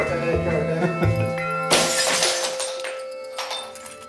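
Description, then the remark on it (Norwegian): In a test, glass patio doors and glass panes are smashed (three doors and two panes in all) so the fracture surfaces and broken glass can be studied and measured. A pane shatters in a sudden, loud crash after a low droning hum, followed by a few seconds of tinkling, ringing shards that slowly fade out. “De knuser til sammen 3 verandadører og 2 glassruter, og bryddflater og glassbrut studeres og måles.”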